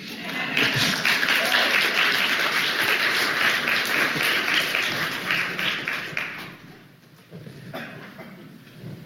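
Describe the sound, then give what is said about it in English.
A crowd applauds loudly and steadily for about six seconds, the dense clapping then thinning out and fading as the room quiets down. “Do I hear applause?”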